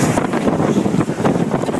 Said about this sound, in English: Friday's powerful storms brought to Ohio a small amount of rain, but blasted through with straight-line winds of up to 80 miles an hour, which are classified as a derecho, which some call a land hurricane.